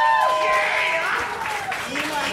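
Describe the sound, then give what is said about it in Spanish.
An audience claps steadily throughout for two contestants on the show Dulce Compañía, with loud cheers and whoops rising over the applause before it eases slightly near the end. “¡Aplauso para estos dos participantes!”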